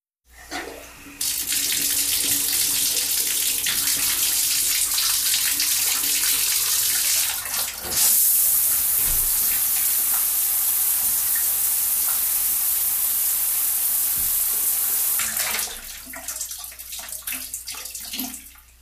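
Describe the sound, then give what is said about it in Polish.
Water splashes and rushes loudly in a home bathroom, continuous for about fourteen seconds, with a brief shift midway before it fades out. No voices are heard. “To był plusk wody w łazience.”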